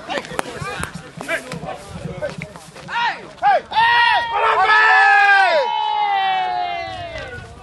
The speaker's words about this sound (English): And here's a snippet of the roar of the crowd.